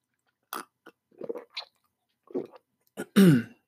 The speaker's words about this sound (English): Let me just get a little swig of water here, folks.